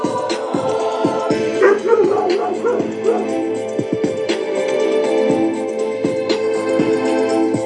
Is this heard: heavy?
no